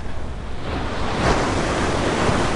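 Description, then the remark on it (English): Steady roar of ocean surf breaking on a shore near Los Angeles, a broad continuous wash that swells slightly louder midway, with some wind buffeting the microphone and no voices. “So it's very nice for me to be here and to feel sun from the water itself.”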